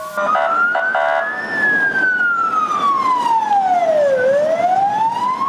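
A fire engine siren wails loudly, its pitch sweeping slowly up and down in a long continuous cycle over steady traffic rumble, as duty fire crews arrive during a firefighting drill on a burning wheat field in Liman.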